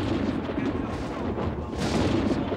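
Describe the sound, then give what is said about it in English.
A loud, rolling thunderclap from a storm passing directly overhead a home in Aiken, South Carolina, rumbles continuously for a few seconds, a deep crackling roar that swells and surges again toward the end without fading out. “Daniel was on the phone with his best friend Tom when the storm passed directly overhead.”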